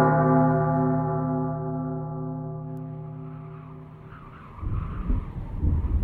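A car pulls up to a house as a storm is brewing, a long steady squealing tone fading as it slows, followed by a louder rough, rumbling noise. No one speaks.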